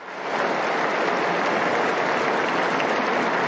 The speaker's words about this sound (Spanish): Un aplauso para ellos.